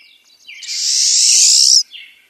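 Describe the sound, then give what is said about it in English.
A pine siskin gives one long, loud, buzzy rising zreee call, with a few faint high chirps just before it and a short softer note after. No voices are heard. “Pine siskins are small songbirds that settle sometimes outside their normal winter hangouts.”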